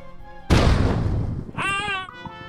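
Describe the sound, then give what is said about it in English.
A laser cannon fires with a sudden, loud, booming blast that rumbles away, then a short, bright electronic whine rings out briefly before fading. “It's times like these that my new laser cannon comes in very handy.”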